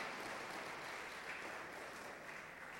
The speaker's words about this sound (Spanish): Den un aplauso bien fuerte al Señor.